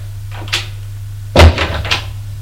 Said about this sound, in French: Puis, la porte s'est ouverte.